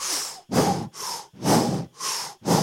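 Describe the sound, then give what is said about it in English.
A voice imitates labored breathing: six loud, harsh breaths in quick, steady rhythm, rasping inhales alternating with heavy, gusty exhales, with no talking. “So it was labored breathing.”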